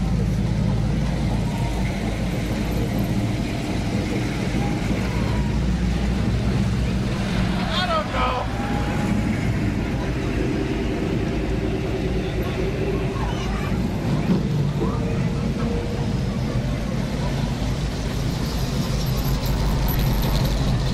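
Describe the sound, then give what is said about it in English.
Outdoor car show ambience: a steady, loud rumble of running engines fills the whole stretch, with wind buffeting and faint voices of people chatting in the background. “Enjoy the car show.”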